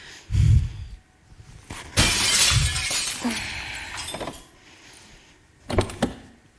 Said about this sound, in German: Ich kann ja mit einem Stein die Scheiben einschlagen. Sehr gute Idee. Hol einen.